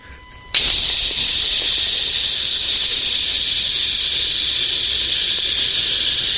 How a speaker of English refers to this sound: You right now, you better be opening your pants, unzipping and pulling down your underwear, and you better be spraying Lysol on your shaft. It should just be like this.